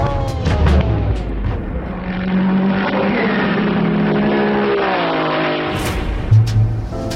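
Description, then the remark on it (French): A Ferrari race car, driven by the Italian Castellotti, roars at full throttle as it is pushed to its maximum past the Indianapolis and Arnage corners, a loud, continuous harmonic snarl whose pitch climbs and dips with gear changes, punctuated by a few sharp bursts near the end. “Mis sous pression, l'Italien doit pousser sa Ferrari à son maximum.”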